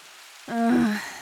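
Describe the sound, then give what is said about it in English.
A steady hiss of falling rain runs throughout, with a brief, drawn-out groaning voice rising over it midway before the rain continues alone. “Why rain? Seriously? Why?”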